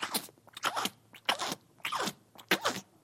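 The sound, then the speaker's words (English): A person imitates a cow chewing its cud with about five rhythmic, crunchy mouth sounds, evenly spaced, with no talking. “What are they doing? Chewing their cud.”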